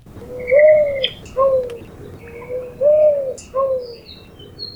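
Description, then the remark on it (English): A mourning dove gives soft, low cooing calls, four mellow hoots in two rising-and-falling pairs, with faint chirps of other birds in the background. “On today's Manu Minute, we have the call of the mourning dove, which, like other doves, is considered a symbol of peace.”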